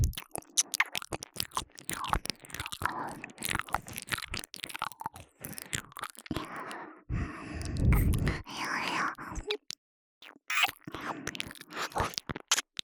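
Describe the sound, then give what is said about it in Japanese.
ASMR ear-licking mouth sounds right at the ear: wet, rapid smacking, slurping and crunchy chewing-like clicks in dense bursts, with a louder, thicker stretch partway through and brief pauses before it resumes. “耳なめの音、より下品になっています。”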